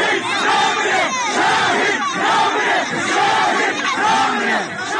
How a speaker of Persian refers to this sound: در پیران شهر اما تجمع مردم در مقابل خانه‌ای حکایت از کشته شدن نوجوانی 16 ساله دارد. کاروان قادری شکری، نوجوانی که پدرش میگوید به یاد کاروان شهیدان نامش را کاروان گذاشته بود. حالا کاروان او راهی شده و مردم هستند که فریاد میزنند شهید نمیمیرد.